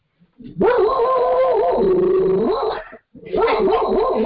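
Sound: dog barking and howling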